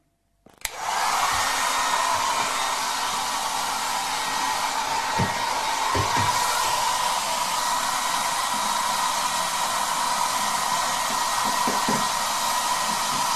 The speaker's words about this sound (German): Und deswegen greife ich jetzt zu meiner Geheimenteisungswaffe, meinem Föhn. So, auf geht's.